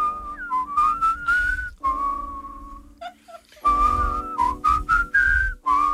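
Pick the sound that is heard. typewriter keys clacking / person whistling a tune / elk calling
person whistling a tune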